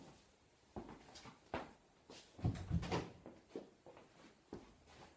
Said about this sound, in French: Excusez-moi, je vais juste fermer une porte.